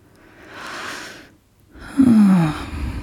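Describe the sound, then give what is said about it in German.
A single deep, slow breath taken as a calming exercise: a long airy inhale, a brief pause, then a longer exhale that ends in a soft, audible sigh. “Das kann man auch ganz schön so tagsüber immer mal wieder so kurz machen, dieses, ja, sich einen Moment nehmen und einfach versuchen, tief und langsam zu atmen.”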